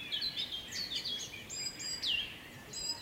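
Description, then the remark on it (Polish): Several birds sing outdoors in May on the slope of a small hill at Rybotycze, their bright, overlapping chirps and whistled phrases layered over a soft, steady background hiss, with no voices present. “Ptasi majowy koncert na zboczu niewielkiego wzgórza.”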